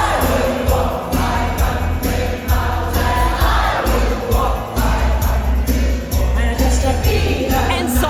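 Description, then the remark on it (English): A large crowd of voices rings out together in a loud, steady chant, the dense roar of many people filling the space with a rhythmic, unified pulse. “What I love about it is you could tell there's a ton of people.”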